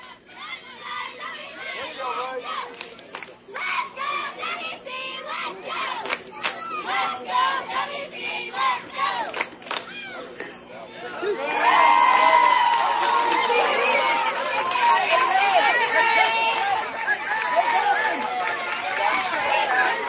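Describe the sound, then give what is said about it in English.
At a ball game, a crowd erupts in mixed cheers and jeers after a strike call on the second pitch, cheers from the Grimes and Columbus side and jeers from the Washington County side: a dense wash of voices that starts as steady babble and surges louder about halfway through, staying loud to the end. “Cheers over in the Grimes and the Columbus side, and jeers over on the Washington County side.”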